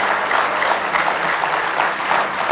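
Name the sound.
audience hand clapping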